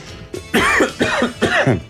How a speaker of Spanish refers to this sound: Sintió la presión, ¿eh? Lo tiene ahí. Y bueno, y le viene la tos.